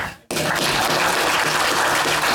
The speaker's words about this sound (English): And how about one more round of applause for our guest today,